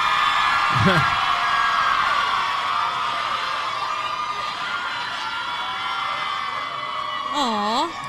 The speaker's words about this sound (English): Oh, my God. They're all yelling questions at one time.